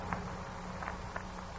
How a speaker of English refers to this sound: And there was another sound. A hesitant little footstep. And a rustling at the dresser across the room from me.